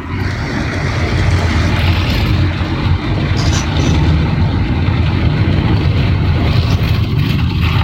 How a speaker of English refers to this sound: Car wash. Listen, car wash, go.